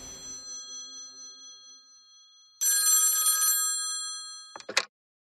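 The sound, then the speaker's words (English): An old rotary phone on a coffee table rings its mechanical bell loudly: a fading ring tail, a pause, then a full rattling trill, followed by a couple of sharp clunks before silence. “A rotary phone rings on a coffee table.”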